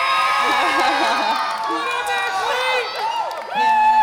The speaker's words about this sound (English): I'm going to have you start out telling what group over there was yelling so loud for you